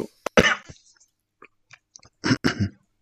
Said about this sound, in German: Alter, was war das? Das war noch nicht mal ein Husten. Ja, habe mich mit meiner eigenen Spucke verschluckt.